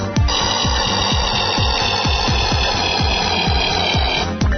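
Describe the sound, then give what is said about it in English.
A video game cruiser ship sound effect, the first enemy ship met in the game and present in all levels: a loud, steady buzzy electronic drone with shrill high overtones, riding on a fast, regular low throb of repeating downward-sweeping pulses. “Okay, that's the cruiser. That appears on level 1.”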